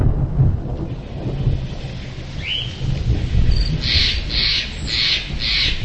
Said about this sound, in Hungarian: Több mint 100 méter magasságból zúdul alá a víz, és hát elképesztő nagy víztömeg. Nagy vizek esetén kb. 5000 köbméter víztömeg zúdul itt le másodpercenként, ami ugye a Duna-Budapest vízhozamának több mint kétszerese.